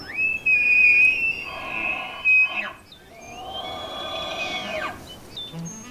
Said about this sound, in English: And if you look closely, you may also be able to spot or hear one of the park's 700 or so tule elk.